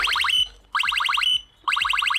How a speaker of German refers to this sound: Ist wirklich eine Amsel und kein E-Roller, denn offenbar ahmen die Vögel das Geräusch von E-Scooter-Alarmen nach. Die hören sich nämlich fast genauso an und zwar so. Also das hier ist jetzt der E-Roller.